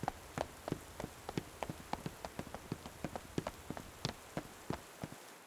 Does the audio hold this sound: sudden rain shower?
yes